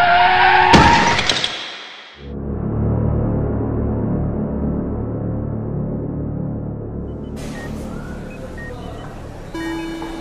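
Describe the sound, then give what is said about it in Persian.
A loud, shrill screech of car brakes with a blaring car horn in the middle of a street, cut by a sharp bang, then a brief hush before a steady low rumble settles in. “اصلا حواسم نبود که وسط خیابونم و بعدش فقط یادمه که صدای بوق و جیغ ترمزه ماشین.”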